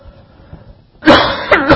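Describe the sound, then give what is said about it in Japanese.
A loud cough bursts out after a quiet moment, a harsh throaty expulsion with a couple of rough pulses trailing off, heard alone with no talking; a speaker coughs during an English lesson. “失礼、ちょっと咳が出ました。”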